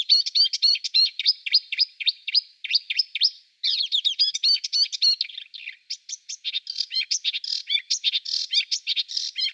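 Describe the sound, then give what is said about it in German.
A songbird, a species known to imitate over 200 documented bird species, sings a fast, varied song of chirps, trills and whistled phrases that imitate other bird species, continuous, with no voices. “Es gibt über 200 nachgewiesene Vogelarten, die er nachmacht.”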